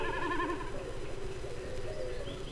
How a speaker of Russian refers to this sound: Это высоко в голубом небе такует бекас. Вот он пикирует, слышно, как вибрирует перья хвоста.